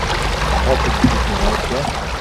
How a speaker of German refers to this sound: Jetzt balancieren die drei über ein Brett, über einen Bach. Steigt da nicht rein, da ist doch Wasser.